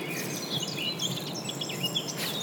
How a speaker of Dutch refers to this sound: Deze vogel dus. Ja. Dat is een zwartkop. Die zijn nu een paar weken terug uit hun overwinteringsgebied. De mannetjes zijn meestal eerst gaan zitten, claimen territorium door hard te zingen.